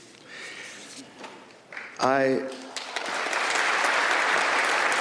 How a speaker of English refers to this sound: That's worthy of a clap. Golf claps.